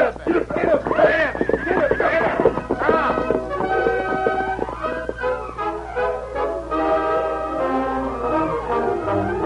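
horse neighing and whinnying

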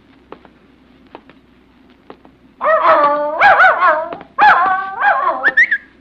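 dog barking

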